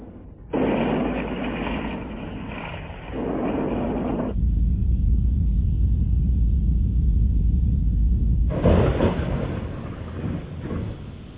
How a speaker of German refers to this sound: Vulkane, Erdbeben und Donner.